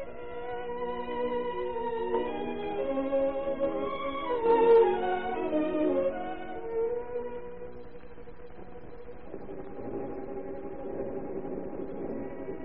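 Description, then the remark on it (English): A fire alarm siren, given for a house on fire, wails steadily with a rich, buzzing tone, shifting pitch and swelling louder midway before settling into a lower, rougher drone. No one speaks. “Your house is on fire. I'll give the alarm.”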